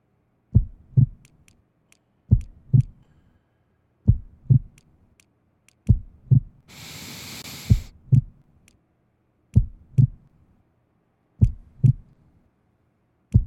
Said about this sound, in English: Match your heartbeats and time your breathing to the patterns.